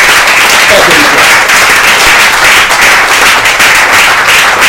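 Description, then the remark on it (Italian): Loud, dense audience applause for the two winners of the Premio Lania fills the whole clip, a steady, crackling wash of many hands clapping with no pauses, bright and noisy throughout. “E i due ragazzi che sono vincitori del premio Lania, per cui vi un applauso,”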